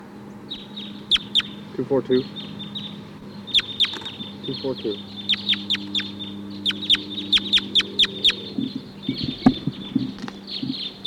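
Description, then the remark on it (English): A flock of about 14 or 16 wild crossbills chittering in the treetops: many sharp, high-pitched chip calls in irregular bursts and clusters, fairly loud, over a steady low hum. “There's a huge flock of crossbills here now. About 14 or 16 birds.”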